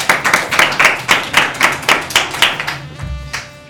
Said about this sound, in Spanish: Pues muchas gracias, chicos, un aplauso para los niños de primero.